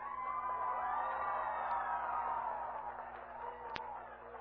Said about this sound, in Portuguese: Peraí, ô bicho, você grita, hein? Peraí.